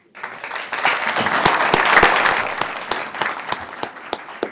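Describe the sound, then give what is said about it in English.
People at a meeting clap steadily for several seconds after a resolution passes unanimously, applauding Jefferson High School students, a dense, even wash of applause with sharp individual claps standing out, swelling slightly in the middle before easing off. “We'll suspend the rules and applaud our heroes.”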